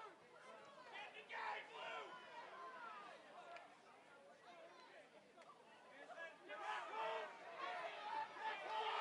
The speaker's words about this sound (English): Rick Adair is furious. He's going after him, and the crowd is cheering for him.